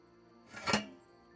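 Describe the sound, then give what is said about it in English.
A kettle is set down over a fireplace with a single short metallic clunk and a faint ring, with quiet room tone before and after and no one talking. “Yeah, no, I just put the kettle over the fireplace.”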